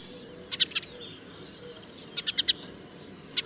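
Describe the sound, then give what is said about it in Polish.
A Eurasian tree sparrow calls in short bursts of bright, high chirps, usually doubled, grouped in clusters of three to four with a quick, vibrating metallic trill, over a soft outdoor background. “Ponadto mazurki emitują zwykle podwójny świergot i zwykle wstawiają w niego wibrujący metaliczny terkot.”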